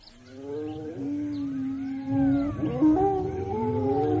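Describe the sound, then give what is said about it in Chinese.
Several wild wolves standing on a hilltop behind howl together in a chorus of long, overlapping wavering tones that rise and fall, sustained throughout at moderate loudness with no one speaking. “果然后面的山头上隐隐约约地站着几匹恶狼，他们的叫声十分可怕。”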